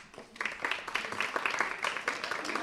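A burst of audience applause as a guest arrives at a UMH Day event at an institute: many hands clapping in a dense, steady patter that starts softly and quickly swells, holding at a moderate level for a few seconds.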